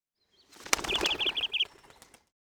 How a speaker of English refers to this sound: At that moment, the mother bird flew into the tree and called, "Stop! Please don't take my eggs!"